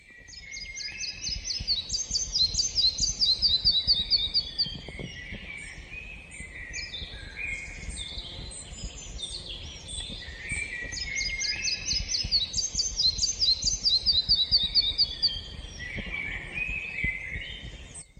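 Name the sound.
birds singing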